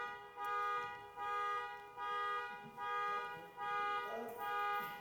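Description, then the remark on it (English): A car alarm blares in a steady repeating cycle of loud, harmonic honking bursts, about one per second, with faint chatter in the background. “Is somebody getting a car stolen?”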